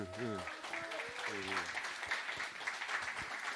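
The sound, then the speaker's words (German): An evening audience applauds steadily for several seconds to welcome the evening's moderator, a dense crackling wash of many hands clapping, while a voice briefly calls out over the opening moments. “Jetzt würde ich mich freuen über einen Applaus für unseren Moderator heute Abend, wie immer,”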